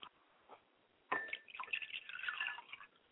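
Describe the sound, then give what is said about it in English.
Libation liquid is poured onto a surface as a ritual offering to the south, in a short, splashy stream, with a few scattered drips first, then a trickling, gurgling pour lasting about two seconds. Fairly quiet. “I pour libations finally to the south, and I say Ashe.”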